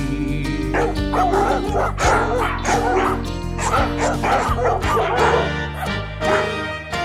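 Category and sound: animal, dogs barking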